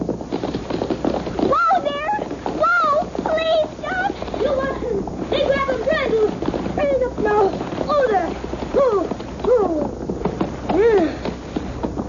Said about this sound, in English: Get along, Papoose. Get! Whoa! Slow down. Be a good horse. Whoa! Hold the horse